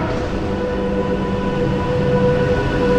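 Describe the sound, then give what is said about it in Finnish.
An InterCity passenger train rumbles past, a steady, loud low roar of wheels and carriages with faint tonal hums, continuous throughout with no voices. “No, annetaanpas tuon IC-junan tuossa nytten.”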